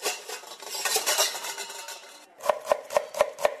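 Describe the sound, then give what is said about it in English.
Pots and pans clatter and scrape in Meeta Gokhale's kitchen in Pune, India, during her men-only cooking class on an early Saturday morning. A busy rattling gives way to five quick, evenly spaced metallic knocks. No one speaks. “Pots and pans are pulled out, onions chopped.”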